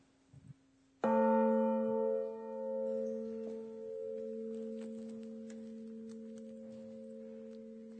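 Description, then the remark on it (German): A single large church bell, the bell of the Holy Spirit, is struck once, with a loud clang that settles into a long, steady humming resonance that lingers for several seconds. No voices are heard. “Die nächste Glocke ist die Glocke des Heiligen Geistes.”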